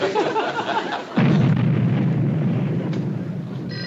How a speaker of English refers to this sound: No, ma'am, that's just blasting on the underpass.